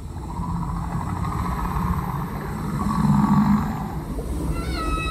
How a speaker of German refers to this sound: In die Tiefe der großen, unerforschten Stille. Im Ozeaneum heißt sie Halle der Riesen, wo die geheimen Gesänge der Wale zu hören sind.